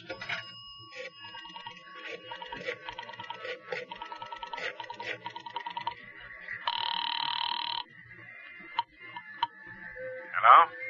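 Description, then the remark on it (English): A telephone rings on the line at night as a single buzzing burst heard through the receiver, preceded by a series of clicks and faint tones, with a brief sharp sound near the end. “I want to make a phone call.”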